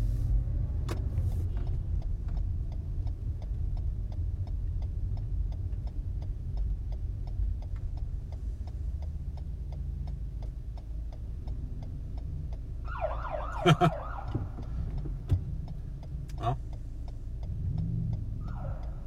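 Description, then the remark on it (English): Steady road traffic rumbles throughout as cars roll past, with a regular faint ticking and a brief, sharp horn-like blare about two-thirds of the way in. No one speaks. “Why are there so many cars out here already?”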